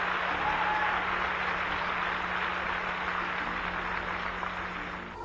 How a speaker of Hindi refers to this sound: मुझे नहीं पता आप तालियां क्यों बजा रहे हैं, पर मैं तुम्हारे बारे में बात कर रहा हूं।